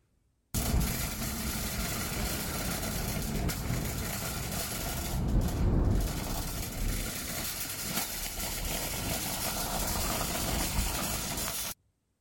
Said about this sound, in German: Das ist ein Einkaufswagen, den du über die Straße schiebst.